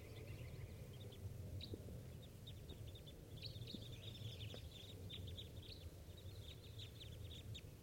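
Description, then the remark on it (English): A flock of about 14 birds calling from a dead tree, many short, high chirps overlapping in a busy, continuous chatter over a steady low rumble, with no one talking. “There's about 14 birds up in that dead tree.”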